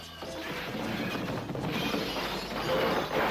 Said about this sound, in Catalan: Van caure a terra i es van trencar amb trossets petits. Amb el soroll de la trencadissa, va venir corrent el gran savi Catifa.